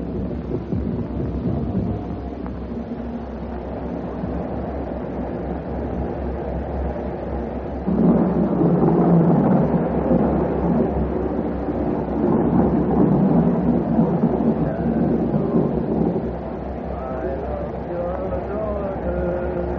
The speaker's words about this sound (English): They said there'd be a storm tonight. It looks like it's on the way.